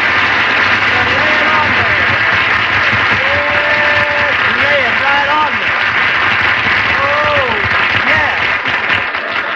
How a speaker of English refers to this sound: Phil, why do you always have to come in here and ask the audience to applaud? Well, I ain't going to get no laughs with the jokes you give me, and I want to hear some kind of noise.